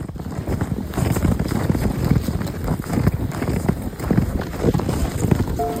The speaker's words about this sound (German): Knirschend drücken sich die Hufen deines Pferds in den tiefen Schnee. Kleine Wölkchen aus Eiskristallen stieben in die Luft.